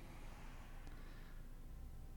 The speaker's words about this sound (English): I can hear this car, and it's, like, making me nervous it's my car. But I don't think it is.